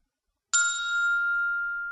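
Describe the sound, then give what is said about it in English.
A single bright electronic chime sounds after a brief silence as the call button is pressed on a touch screen after dialing a number, its clear tone ringing steadily and fading only slightly over the next second and a half, alone. “I press the call button.”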